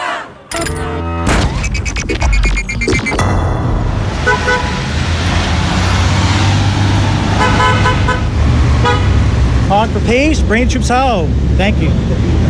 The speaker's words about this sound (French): Alors vous, évidemment, c'est klaxon et cette voix, ça ne vous dit pas grand-chose. Des petits coups de klaxon dans une ville de l'Amérique profonde, oui, évidemment, plus banal, il n'y a pas.